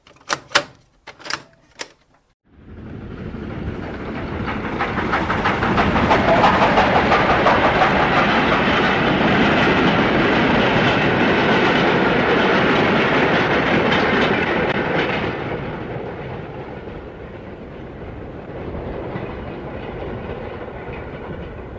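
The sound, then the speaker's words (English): A few sharp clicks, then a B1 steam locomotive, number 61263, hauling a loose-coupled goods train from Dundee to Thornton roars past at 11.38 at night on 1 November 1966, wagons clattering rhythmically for over ten seconds before the noise fades to a lingering rumble. “Well, it was 11.38 at night, 1st of November 1966, and we had a loose-coupled goods train, 61263 B1460, hauling it, and it's travelling from Dundee to Thornton.”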